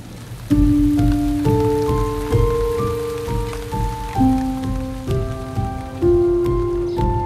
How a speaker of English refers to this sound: Then a wind picks up before the rain starts to pour.